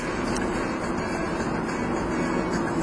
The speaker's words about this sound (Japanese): 今ね、車に乗ってるんですけどね、僕の椅子はないっていうね。 そうなんですよ、フラットシートで。 そう 自転車入れてるんで。スペースがないっていう。